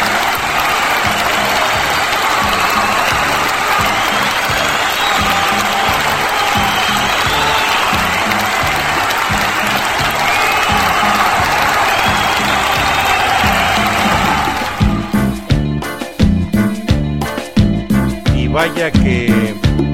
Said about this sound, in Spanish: Vaya que se ameritaron esos aplausos, público conocedor, porque, pues bueno, tres canciones, bueno, bien dos canciones y un intro.